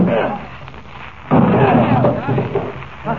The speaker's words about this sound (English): Open up in there, Rawson. Open up. All right, we'll have to break the door down. Lend a hand here, Kent.